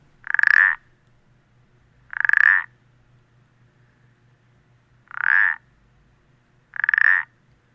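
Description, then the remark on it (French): A small toad about 4 cm long gives four short, loud creaking calls, each a clacking burst with a slight bounce, like two pétanque balls knocked together, spaced unevenly over a few seconds against a low steady hum, with no talking. “Un petit crapaud qui a un son qui ressemble à 2 boules de pétanque qu'on entrechoque avec du rebond.”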